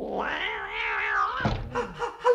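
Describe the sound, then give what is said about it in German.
A cat sitting on the lid of a box lets out a long, drawn-out meow that rises and wavers for over a second, followed by a few shorter, softer mews and a small thump, fairly loud. “Eine Katze auf dem Deckel.”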